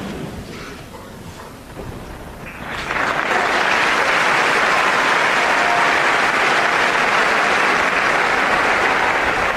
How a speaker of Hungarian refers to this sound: Kedves hallgatók, a háttérben a 6. pálteremben lévő zarándokok tapsa hallatszik, ami azt jelzi, hogy véget ért a mai általános kihallgatás.